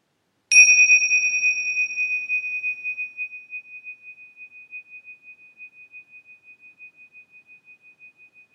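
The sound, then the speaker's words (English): A single meditation bell is struck once, then rings on with a clear, pure tone that slowly fades away over several seconds, its sustain gently wavering. No voices are heard. “Let the sound of the bell take you back into silence.”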